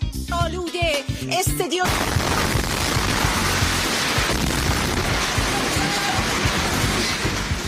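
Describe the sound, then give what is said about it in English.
A voice speaks briefly before a sudden, loud explosion cuts in during a live Iranian state TV broadcast, as Israel bombs the station headquarters, followed by several seconds of dense roaring rumble and crackling debris noise that stays loud to the end. “Explosions rocked the live broadcast of Iranian state TV yesterday after Israel bombed station headquarters.”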